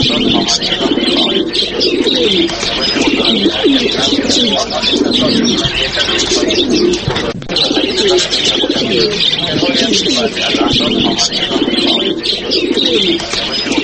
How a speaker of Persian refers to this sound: شنوندگان عزیز، کفتر یا کبوتر کزش در زمانه های قدیم به نام قاصد به وفا یاد می شد. تا امروز علاقمندان خاص خودش را دارد و کسان آن را در خانه هایشان به صورت خیل نگه می کنند.